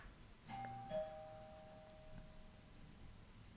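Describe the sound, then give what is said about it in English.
A doorbell chimes once with two tones, a ding followed by a slightly lower dong that rings out and fades over a couple of seconds, as a mailman leaves a package at the door, over quiet background noise, with no one talking. “Doorbell's about to ring.”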